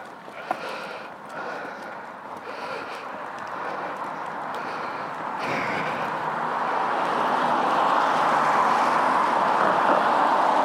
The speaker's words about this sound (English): Well, here we are. Quite a few cars still. Let's cross over and we can get home.